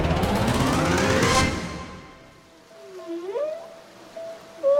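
A dense, noisy wash fades out, then long tonal whale calls take over, rising and sliding moans and whistles sounding out one after another.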